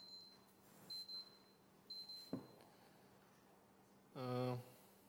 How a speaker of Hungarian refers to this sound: Hát mivel csipogás van